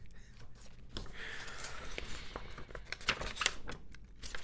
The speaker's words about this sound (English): Can I make more paper rattling noises?